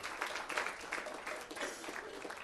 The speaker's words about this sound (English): Should we give these guys a round of applause? Yay!